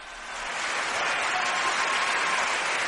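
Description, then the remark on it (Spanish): A large opera audience bursts into wild, sustained applause for singer María Malibrán as Rosina, a dense crackle of many hands clapping that swells over the first second and then holds steady and loud. “La Rosina, creada por María, resultó tan maravillosa que a los pocos minutos el público se olvidó de su adorada diva para aplaudir enloquecidamente a María.”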